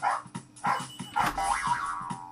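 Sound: dog barking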